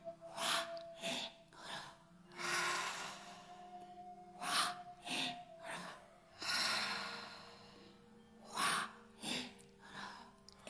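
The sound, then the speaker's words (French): Deep, forceful breaths repeat in a steady rhythm, with sharp bursts of air alternating with longer, rushing exhales, ending in a full exhale to empty the lungs. A quiet background hum sits underneath, and no one speaks. “Expirez, videz-vous complètement.”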